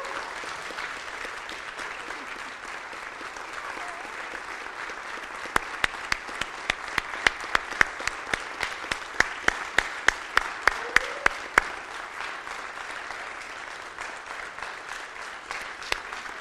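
Steady audience applause from a crowd celebrating a children's director's 15th anniversary of being hired: a dense wash of many hands clapping throughout, with a run of sharper, louder individual claps standing out in the middle before it evens out again.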